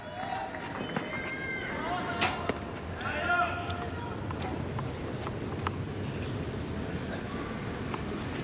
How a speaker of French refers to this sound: Mourova au service côté gauche qui fait rebondir sa balle